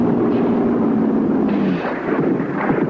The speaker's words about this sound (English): More bullets zip into the water around the swimmers.